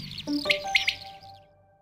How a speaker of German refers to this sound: Also wir sitzen als Anwohner öfter hinten mal an den Wiesen und wundern uns dann immer wirklich, jeder nimmt sein Handy, was ist denn das jetzt für ein Vogel? Haben wir hier noch nie gehört. Echt schön.